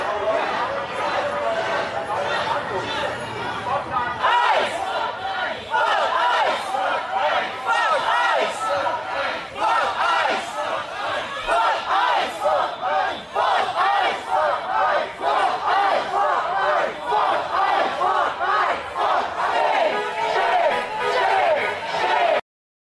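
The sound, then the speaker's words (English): A large crowd of protesters outside an ICE facility chants the word "shame" in unison, over and over in a steady, loud rhythm, with shouting voices blending together for the whole stretch. “And now they're just standing there saying shame, shame, shame.”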